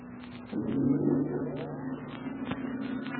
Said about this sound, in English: Too weak. We'll have to use a relay and step it out a little. Will you please throw in the generator switch? Oh, certainly.